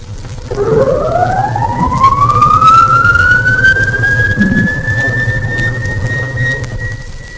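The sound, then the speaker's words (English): A submarine collision alarm: one loud siren wail that sweeps steadily upward in pitch, then holds a high, steady tone over a constant low mechanical hum. No one speaks. “Sounding of the collision alarm.”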